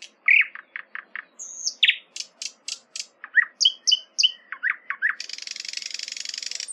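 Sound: bird song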